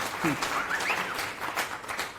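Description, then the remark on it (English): An audience applauds with a dense, steady wash of many hands clapping, fairly quiet and even throughout, with a few faint whistle-like tones rising briefly early on. “Oh, thanks for that encouraging applause.”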